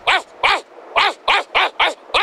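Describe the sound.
A man's voice imitates a dog, letting out six loud barks in a quick, steady rhythm with short gaps between them and no other talking.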